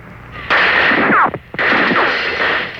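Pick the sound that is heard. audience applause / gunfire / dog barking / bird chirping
gunfire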